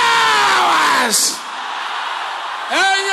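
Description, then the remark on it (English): A church audience shouts loudly in prayer, led by one strong voice whose long yell slides downward. Then comes a steady roar of many voices before another rising shout breaks out. “Can everybody shout this loud and clear?”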